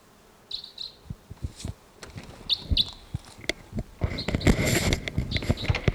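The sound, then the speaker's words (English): Faint, repeated high 'tooping' bird calls in the distance sound in short bursts over a busy outdoor background with rustling and low thumps, growing denser and louder toward the end. “There's tooping in the distance as well. I thought a crossbill may have just swooped in here somewhere.”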